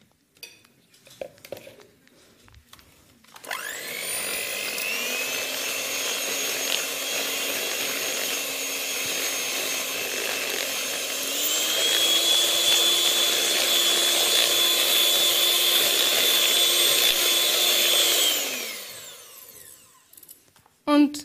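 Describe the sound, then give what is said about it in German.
An electric hand mixer whirs steadily for about fifteen seconds, its motor pitch stepping up once partway through, whipping cream with poured-in melted chocolate until creamy, for decorating cupcakes, with faint scraping against the bowl. “Also unsere flüssige Schokolade dürfen wir da jetzt hineingießen. Das Ganze noch einmal cremig aufschlagen.”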